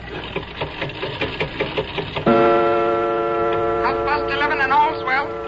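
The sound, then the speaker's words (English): A London-made clock from 1752 ticks steadily for a couple of seconds as its hand is pushed forward, then a sustained mechanical whirring tone takes over, wavering in pitch as the mechanism runs. “I open the glass face like this. I push the hand forward like this, and...”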